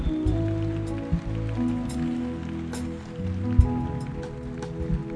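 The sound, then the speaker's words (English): A church audience claps steadily for people coming forward, a dense crackling patter of many hands with a few sharper claps standing out and a low hum underneath, and no one speaks. “Keep clapping for them as they come.”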